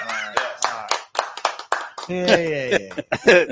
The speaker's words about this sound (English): He always gets an applause. He's like Raul on Sanford and Son. Every time he's in a room, like, oh, you crazy fool, and I'll be like still clapping in the audience.